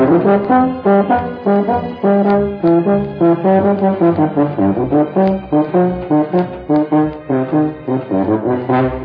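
A euphonium plays a bouncy, mellow melody of short repeated notes in the low-middle register, loud and steady throughout, with no voices.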